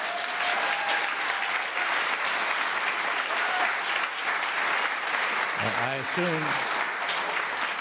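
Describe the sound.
Sustained applause from a large audience at a steady, loud level throughout, with a brief voice rising faintly through the clapping near the end.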